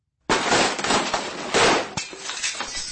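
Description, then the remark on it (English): A sudden loud crash bursts in, followed by a spray of shattering window glass that rattles on, with a second smashing surge midway before scattered fragments tinkle and settle. “I heard the sound of splintering glass in the distance, as if a window had shattered.”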